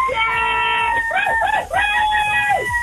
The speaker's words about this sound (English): Can I get everyone to give a big cheer in the background?